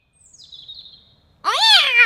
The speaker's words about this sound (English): Oh, there you are, Clarence. Oh, naughty cat.